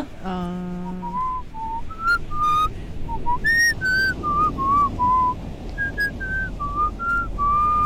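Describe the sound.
Someone whistles the Happy Birthday tune, a clear, bright melody of smoothly gliding notes carried alone at a steady, unhurried pace.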